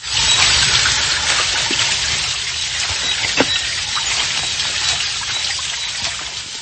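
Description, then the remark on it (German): A forest stream in the Křivoklátsko area (Pürglitzer Wald), a protected landscape of deciduous woods and small gorges, rushes steadily, its broad, continuous splashing filling the whole stretch without pause, with a few faint higher chirps or squeaks briefly poking through. “Laubwälder, kleine Schluchten und rauschende Bäche.”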